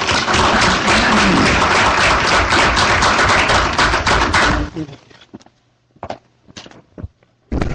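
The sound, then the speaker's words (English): An evening panel audience bursts into loud, sustained applause for a few seconds to welcome a speaker, then it quickly dies away into a handful of scattered, sparse claps before falling quiet. “Ladies and gentlemen, can you please offer a round of applause for Lorraine Ballard-Morrow.”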